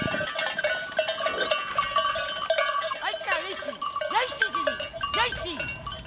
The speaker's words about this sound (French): Ce sont des chèvres du Rove, donc ça vient de vers Marseille, Aix-en-Provence, tout ça. Et elles ont la particularité d'avoir des grandes cornes, une robe assez colorée, plutôt dans les tons marron, noir, etc. Des grandes oreilles aussi.